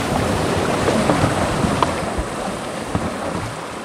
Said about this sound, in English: All right, push, push, push, push, pedal. We're off down the Petbury River, which tumbles and meanders through dense rainforests.